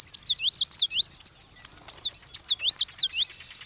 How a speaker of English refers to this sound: The common yellowthroat.